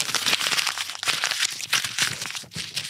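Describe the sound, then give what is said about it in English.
Paper being crumpled, crushed and thrown into the garbage, a dense crackling crinkle with sharp bursts that continues for a few seconds with no talking. “It's real life paper being real life thrown away and being put into the real life garbage.”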